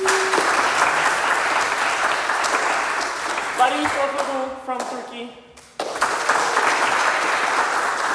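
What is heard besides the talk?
audience applause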